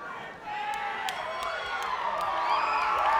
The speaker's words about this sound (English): Yeah, I want to give everybody an opportunity to just yell a little bit, because you obviously need to get something off your chest.